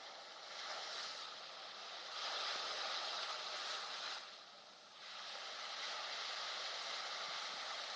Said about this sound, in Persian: چند روز پیش که داشتم درباره این بحثی رو که میخوام در خدمتون باشم فکر میکردم، در کنار ساحل قدم میزدم و به ذهنم خورد که از این صدایی که من دارم اینجا میشنوم شما هم لذت ببرید. چند لحظه ای رو به این صدا گوش کنید تا یک نکته ویژه رو از اون برداشت کنید.